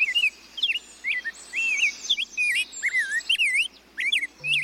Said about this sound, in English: Finally, the cheerful bubbly notes of an ultramarine grosbeak are a reminder that our spring and the arrival of birds like the rose-breasted grosbeak isn't too far off.